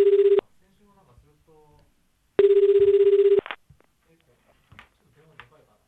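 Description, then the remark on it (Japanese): A telephone ringback tone sounds twice, a steady buzzing trill heard over the line, with a short first burst and a longer second one, followed by faint murmuring voices, as a programme host places an outgoing call to a guest. “さっき電話して出なかったけど寝てた？”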